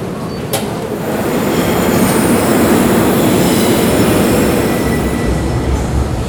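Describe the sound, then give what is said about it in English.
A São Paulo metro train on the Yellow Line in Brazil runs loudly, a steady dense rumble filling all six seconds, with thin high-pitched wheel squeals threading above it; no one speaks. “The metro and urban train systems are amongst Latin America's most developed and modern, having just added a monorail to make for a dozen lines.”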